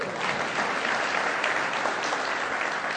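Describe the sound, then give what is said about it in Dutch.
An audience claps for a bearded man who was asked to stand up: a dense, even wash of applause that holds at the same fairly loud level throughout, with no voices standing out. “Even een applaus jongens.”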